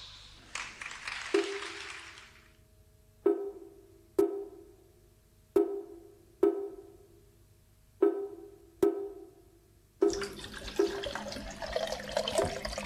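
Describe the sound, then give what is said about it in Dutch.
Water gushes briefly from a tap, then a series of evenly spaced, ringing metallic knocks sounds from a pot before a steady stream pours in again as the pot is filled with water, with no talking. “Vult het water.”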